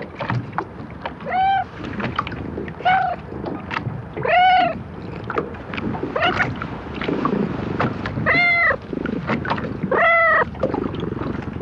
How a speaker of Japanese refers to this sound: この人懐っこい猫はいつからここの景色を眺めていたのでしょうか。神奈川町竹浦漁港でした。